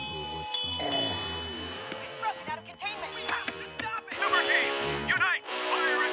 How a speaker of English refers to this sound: His dad swings a bell in prayer.